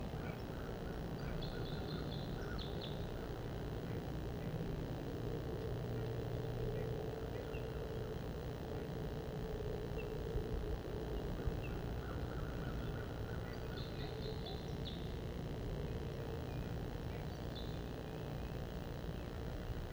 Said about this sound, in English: Purple finch and crossbill song. Wild birds.